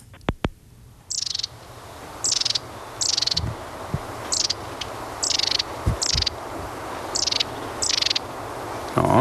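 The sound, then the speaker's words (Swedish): Marsh tit calling in short, high chirpy bursts, about nine of them at a steady pace, over a soft outdoor background with a couple of low thumps. “Och vi tar och lyssnar till kärtmäsen.”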